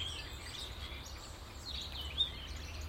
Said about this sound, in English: It'd be a long playing version of birdsong.